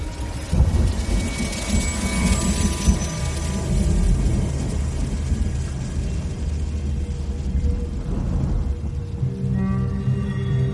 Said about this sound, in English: When I woke up, it was still raining.